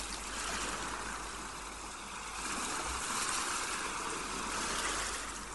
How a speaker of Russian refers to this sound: Когда стихнет шум прибоя, вы окажетесь в состоянии глубокого гипнотического сна.